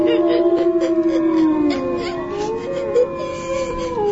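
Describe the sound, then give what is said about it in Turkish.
Several wolves approaching a cave howl together in long, overlapping, wavering tones that rise and slide in pitch, a loud and continuous chorus lasting the whole stretch with no talking. “Kurtlar mağaraya doğru geliyor.”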